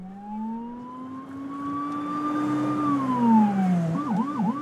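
Sirens from a minister's speeding motorcade, with blue lights flashing, wail through morning rush-hour traffic toward Tel Aviv: a long rising-and-falling tone giving way to a rapid yelping warble, loud over a steady rumble of road noise.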